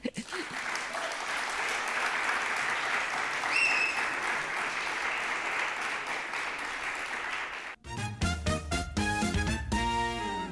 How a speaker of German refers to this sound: Ihr dürft jetzt alle nochmal richtig laut klatschen, damit wir jetzt zeigen können, wie voll es jetzt geworden ist.